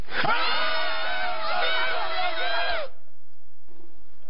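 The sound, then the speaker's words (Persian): A single loud, sustained shout lasting nearly three seconds, strained and harmonically rich, cutting off abruptly into near silence with only faint murmurs afterward. “کی بود داد میزد؟”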